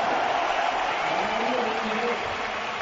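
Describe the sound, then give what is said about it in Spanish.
A huge football crowd at the Camp Nou stadium, all standing, applauds and roars continuously as Piqué is substituted and embraces Vidal, a dense, steady wash of clapping and cheering at a constant loud level throughout. “Todo el estadio de pie aplaudiendo.”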